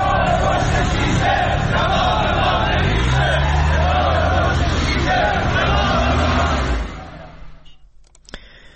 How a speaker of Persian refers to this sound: در مشهد نیز کارکنان آتش نشانی این شهر روز چهارشنبه با تجمع در جلوی استانداری خراسان رضوی دست به اعتراض زده و شعار دادند نگاه پشت شیشه جواب ما نمیشه.